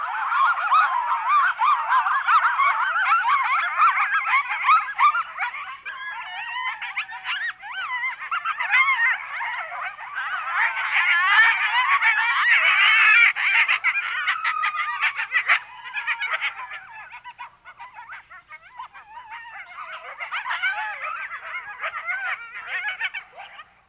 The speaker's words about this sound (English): Among my favorite mammalian sounds are the barks, yips, and howls of the coyote, which can be heard at night over much of North America, from the deserts and mountains of the west to the backwoods of the east.